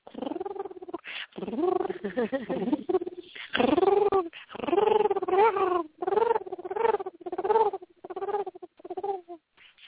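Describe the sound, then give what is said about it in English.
A fairly loud human voice imitates dolphin and whale calls with warbling, sliding tones, channeled as 'light language', delivered in a string of short phrases separated by brief pauses. “And, you know, I channel the dolphins and whales in the tones with the light language.”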